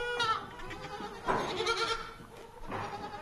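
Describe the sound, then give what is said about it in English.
Lataxa sheep, a dairy breed of domestic sheep native to the Basque country, bleating: three wavering, nasal bleats spaced about a second apart, fairly loud and with no voices or other sounds around them. “The Lataxa is a breed of domestic sheep native to the Basque country, mostly contained within the provinces of Biscay, Yapuco and Navarre.”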